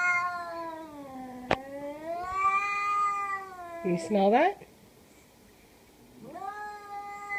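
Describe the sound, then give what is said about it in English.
A cat yowls angrily in long, drawn-out, wavering howls, rising into a harsher burst before pausing and starting up again; a person speaks briefly over it. “This is how much Ricky hates that cat.”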